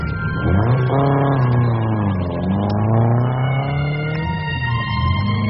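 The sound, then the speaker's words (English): The engine of a dark green E-Type car revs loudly, its pitch rising and falling through a couple of gear changes as it accelerates away for a spin, a steady roaring drone throughout with no voices. “Fancy a spin, like good old Mr. Toad.”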